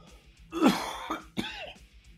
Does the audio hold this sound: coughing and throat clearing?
yes